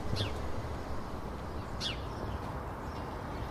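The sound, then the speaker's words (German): Birdsong by two ash trees between prefab housing blocks at the Haus der Statistik: two sharp, high chirps that sweep downward, about a second and a half apart, standing out over a steady, low rumbling background noise. “The birds are super loud.”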